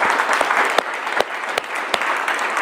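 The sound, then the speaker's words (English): A steady round of audience applause at the end of a lecture: dense, continuous clapping from many hands, fairly loud throughout, with a few sharper individual claps standing out above the wash. “So let's give a good round of applause.”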